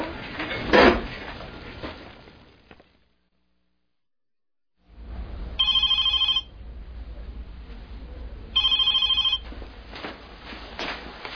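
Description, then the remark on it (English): A telephone rings twice in short, evenly spaced electronic bursts, fairly loud, over a low rumble after a brief clatter and a moment of silence. “You sell the phone. Mm-hmm. It rings. Can you answer it?”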